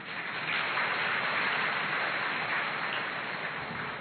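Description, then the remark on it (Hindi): An audience claps for themselves before the first session of a bhatti: a dense, even wash of many hands for about four seconds with no voices over it, holding at a constant level before easing slightly at the end. “अपने लिए ताली बजाओ।”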